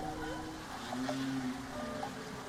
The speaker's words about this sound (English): we are joined for our weekly Hudson River Stories segment today with Henry the Hudson Whale. There you hear him.